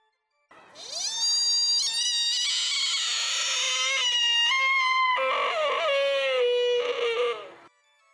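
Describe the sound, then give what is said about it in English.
A buck deer's mating cry in autumn mating season, echoing through woods and forest: a loud, piercing, mournful wail held for about seven seconds, shifting to a lower, wavering tone partway through, with no other sounds. “Autumn is mating season, and through the woods and forest echoes the eerie cry of the lonely, longing buck.”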